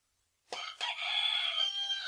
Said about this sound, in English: Here we go. A rooster grenade.